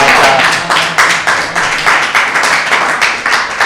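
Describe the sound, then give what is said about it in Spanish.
A burst of applause for a correct answer in a quiz, many hands clapping in a dense, steady patter at a loud, even level for a few seconds, with no talking over it. “Efectivamente, correcto, un aplauso.”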